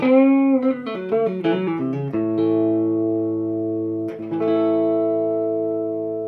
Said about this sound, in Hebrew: בואו, אני משחק טיפ-טיפה בטון. מה אני עושה? אני מוריד את הטרבל, ובעצם מגלח חלק מההרצים האלה שדיברנו עליהם מקודם. בואו נראה איך הגיטרה תשמע עכשיו.